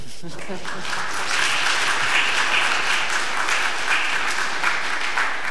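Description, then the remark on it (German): Sustained audience applause at the end of a talk, a dense, steady wash of many hands clapping at a fairly loud level that swells slightly after the first second and holds without pause. “Oder Applaus?”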